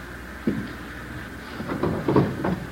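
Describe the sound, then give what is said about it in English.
A wooden drawer holding an old pair of gloves is pulled open with a short bump, then a longer rough scraping slide and a few knocks as it comes out. It's moderately loud, with no one talking. “Old pair of gloves of mine. You'll find them here in this drawer, remember that.”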